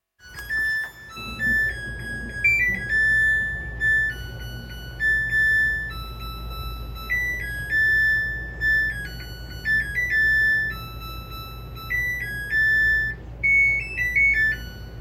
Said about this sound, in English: I want to play this washing machine song again that we heard in the intro, and then I want you all to dissect it for me.